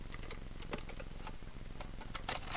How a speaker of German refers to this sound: Mal sehen, ob wir den Kasten aufkriegen.